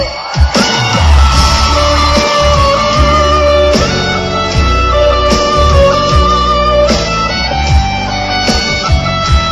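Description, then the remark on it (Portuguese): A large crowd yells and cheers loudly and continuously, their shouts blending with a live band playing steady, thumping music throughout. “Cadê o grito dos apaixonados aí?”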